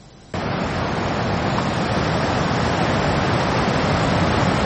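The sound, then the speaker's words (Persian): A steady, loud roar of surf washes over a beach in Spain where surfers have returned to the water, starting abruptly after a brief quiet moment and continuing without a break. No voices can be heard. “از جمله پس از حدود 50 روز سواحل این کشور به روی ورزشکاران و موج سواران باز شده، البته با رعایت ضوابط بهداشتی و حفظ فاصله.”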